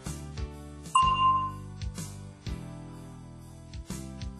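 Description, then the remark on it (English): A single clear bell ding in a New Dynamic English lesson, signalling the listener to say an answer, rings out and fades over about half a second, with steady instrumental music playing underneath and no one speaking. “Listen for the bell, then say your answer.”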